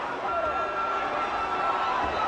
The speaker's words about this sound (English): Oh my God, this is... It's a lot of screams. It sounds like a riot.